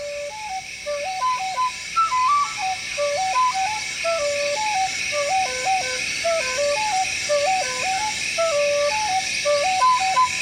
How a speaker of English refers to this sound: is playing to the rhythm of these frogs right along this line right here